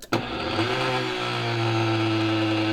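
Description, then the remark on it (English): A powerful blender switches on with a sharp click and roars at a steady, loud motor whine, its pitch rising slightly and then holding as it churns through ají panca peppers. “So place your peppers in the blender.”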